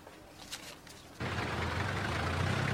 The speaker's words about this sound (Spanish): Mientras Simón mira unos dulces, afuera la camioneta de remolque se lleva su auto.